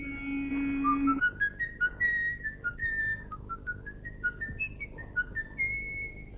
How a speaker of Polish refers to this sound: Na swoje nieszczęście gwiżdże przy tym ulubioną melodię, za sprawą której zostanie później rozpoznany.